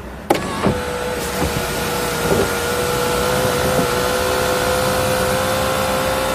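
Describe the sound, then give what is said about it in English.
With the car's ignition on, an automatic sunroof's servo motors start with a click, then whir steadily with a smooth, mid-pitched electric whine that holds for several seconds. No one speaks. “What is that noise? Listen to the servos.”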